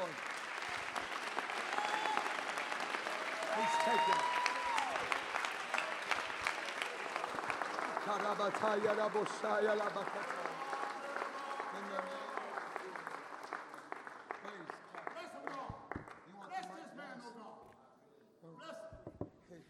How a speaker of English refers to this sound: Praise God. Amen. Clap your hands.